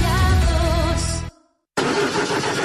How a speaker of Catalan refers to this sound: Així és com sona el motor d'un cotxe mal cuidat.